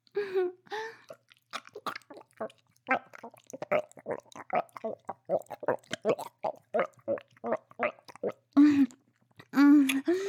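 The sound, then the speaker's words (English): Wet slurping mouth sounds made during oral sex repeat in a rapid, irregular rhythm, broken by a few voiced gagging noises near the start and end, with no spoken words. “I can tell you like these sounds. I can feel you throb with every slurp and gag.”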